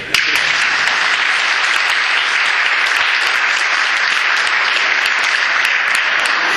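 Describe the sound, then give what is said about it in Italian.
An audience claps steadily for several seconds to vote in a poll, those answering no applauding: a dense, even wash of many hands with sharp individual claps poking through, loud and sustained from start to finish without any talking. “Allora, prego, i no, applaudite.”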